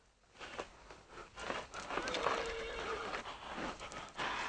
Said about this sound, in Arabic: صهيل الحصان ينبئ بقدوم أحد.